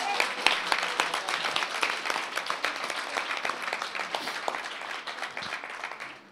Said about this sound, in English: But why don't we give her a clap?